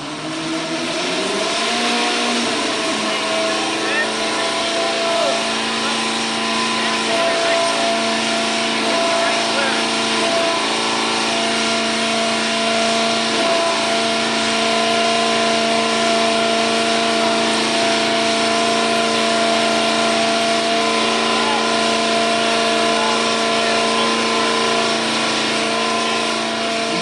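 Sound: racing car engine revving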